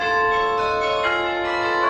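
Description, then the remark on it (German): Carillon bells ring steadily from a tower, several tuned bells sounding together in a rich, sustained chord with long shimmering overtones, fairly loud and with no voices. “Das Glocken- oder Carillonspiel gehört mit der Königlichen Glockenspielschule zum UNESCO-Weltkulturerbe.”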